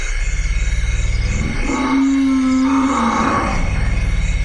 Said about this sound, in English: These are African forest elephants. And some of the sounds you can barely hear because their frequency is so low. They're literally at the bottom end of human hearing range and even below that. We have a little social behavior going on here